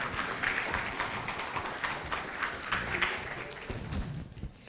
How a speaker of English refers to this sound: Now you can give her a round of applause. Good job.